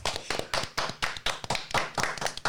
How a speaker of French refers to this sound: On applaudit George.